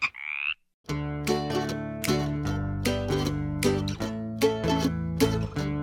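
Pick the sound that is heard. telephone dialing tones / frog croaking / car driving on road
frog croaking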